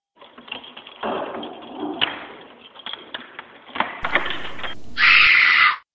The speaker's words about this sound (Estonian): Veetse ukse ees on võti, keerame selle lukku.